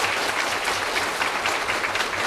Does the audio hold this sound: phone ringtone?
no